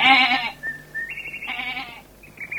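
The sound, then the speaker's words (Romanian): A billy goat bleats twice, a loud, wavering cry followed by a second shorter one, with thinner tonal squeals in between and no talking. “Ei, fii capru de treabă și nu te mai zbănțui atâta.”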